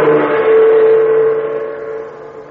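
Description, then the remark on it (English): A car arriving in Chungking, China, its engine droning loudly and steadily with a low rumbling hum, holding for a moment before slowly easing off and fading; no one speaks. “Terry Lee and Pat Ryan arrived in a car they had taken from Mr. Keel, one of the Dragon Lady's men.”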